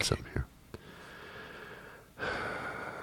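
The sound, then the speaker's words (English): Loud, breathy exhalations and a sharp intake of air, then a long drawn-out huff of heavy breathing with a hissy, airy texture. “Heavy breathing.”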